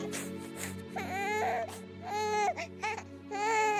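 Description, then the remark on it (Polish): The first cry of newborn baby Helenka, later Saint Faustina: a series of loud, high-pitched wails, each burst rising and falling in pitch, with brief catches of breath between them and no talking. “Czy z pierwszym krzykiem małej Helenki, późniejszej Faustyny?”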